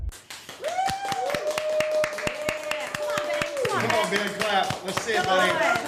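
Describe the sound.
Steady, rhythmic clapping, sharp claps at a quick even pace of roughly four per second, with voices calling and chanting loudly over the beat throughout.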